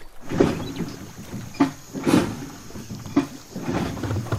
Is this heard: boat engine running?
yes